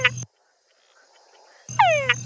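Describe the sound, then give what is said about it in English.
A frog's mating call to attract females in two loud bursts separated by a pause: a short opening note, then a longer call with rising and falling whistle-like harmonic sweeps over a low buzzing pulse. “Yeah, so I work with a species of frog that has a very, very clear, strong, distinctive call to attract females.”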